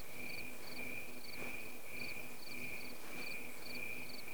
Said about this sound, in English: I was just going to tell you that the crickets are nature's thermometers, that's all. You can tell how cold it is by how fast they chirp.